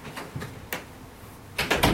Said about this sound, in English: I'm just going to close the door because I hear my dog in the background.